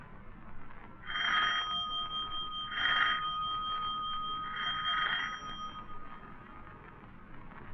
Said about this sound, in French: Numéro 3 de la rue Bergère, à droite sous la porte cochère. 3 coups de sonnette, on ouvrira.